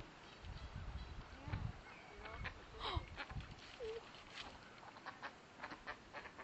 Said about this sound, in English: Oh, there's one. Oh. There's lots of ducks here. So I don't know if they're ducks or swans making sound.